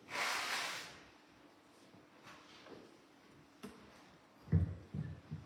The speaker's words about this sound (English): I'm just going to have to blow my nose, sorry.